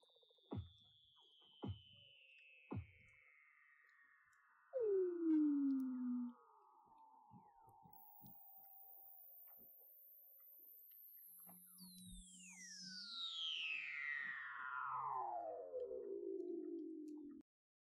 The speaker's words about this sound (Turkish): İlerleyen çalışmalar seslerin asıl işlevi hakkında bilgiler sağlamaya devam edecektir. Weddell foklarına ait akıl almaz seslerden bir kısmı şöyle.